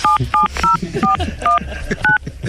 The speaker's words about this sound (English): Tell me what your ID number is. Don't punch it in on the phone.